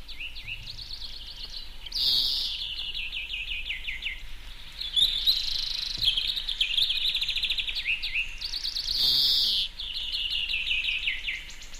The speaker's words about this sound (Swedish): Det är rätt, det är grönfink. Så här låter grönfink.